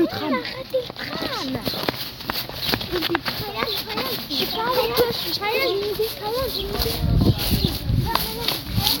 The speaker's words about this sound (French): Tu mets des claques. Aïe. Sans vous faire mal.